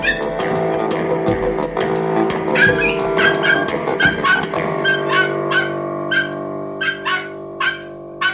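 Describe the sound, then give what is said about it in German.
Pinsel, the small black, shaggy dog of master detective Balduin Pfiff, yips and barks in rapid, high-pitched bursts, mixed with whiny whimpers, fairly loud, the sharp yaps continuing steadily over several seconds with no one talking. “Dass Meisterdetektiv Balduin Pfiff seit kurzer Zeit einen kleinen Hund besaß, das wussten die meisten Leute in der Straße.”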